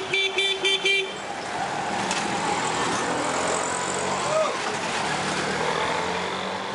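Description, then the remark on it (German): A quick burst of several short car horn honks opens the scene, then busy city traffic carries on as a steady, dense roar of passing vehicles. “In vielen Städten dominiert der Autoverkehr und die Umweltbelastung ist erheblich.”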